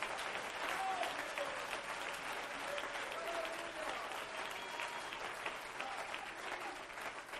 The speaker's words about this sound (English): Oh, let's clap our hands and praise God.